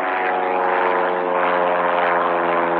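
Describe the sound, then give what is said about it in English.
A single-engine, low-wing private propeller plane drones overhead, its buzzing engine hum steady and fairly loud for the whole moment, with no voices. “That's a little pilot, a little private pilot.”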